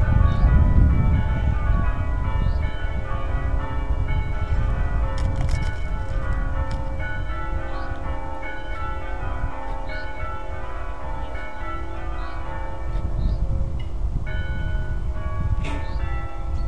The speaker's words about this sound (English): So we're at Croom Park. They've had a quarter peal of bells, I think. It was about that sort of length. Because the two of the managers are getting married today.